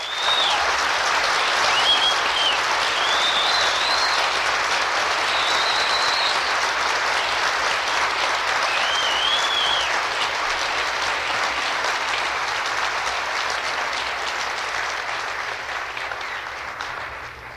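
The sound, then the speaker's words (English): A large audience at a graduation ceremony applauds graduates in arts and sciences, a dense wash of clapping from many hands with a few whistles rising above it, sustained throughout before gradually thinning toward the end. “Please applaud all of these wonderful graduates in arts and sciences.”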